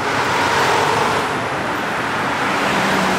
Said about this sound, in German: Auch der Ort Ötz liegt im Ötztal. Und wer hier über die Straße möchte, muss unter Umständen länger warten. Denn zu bestimmten Zeiten reihen sich hier Autos und Lkw fast lückenlos aneinander.